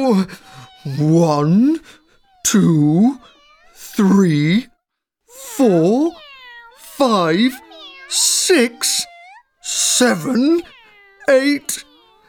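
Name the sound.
many cats meowing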